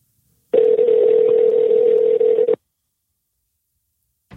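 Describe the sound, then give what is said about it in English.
A telephone dialing tone while calling a restaurant to ask about the Arbinator sandwich: one steady, unbroken mid-pitched electronic hum lasting about two seconds, fairly loud, then cutting off abruptly into silence, with no voices. “Let's see if we can give them a call.”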